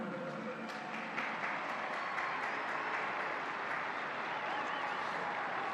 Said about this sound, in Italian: Un applauso ai bambini.